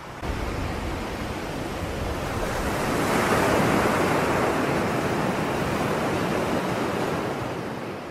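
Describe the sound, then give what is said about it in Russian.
Roaring tsunami waves crash in a continuous, heavy rush of water, swelling louder toward the middle before easing slightly, with no voices present. “Это ведь цунами! Цунами!”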